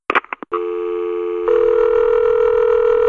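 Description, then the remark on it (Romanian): A telephone line keys in a few quick beeps, then a loud, steady tone drones on with no one picking up. No voices are heard. “Sună de nu știu când și indolentul nu vrea să răspundă.”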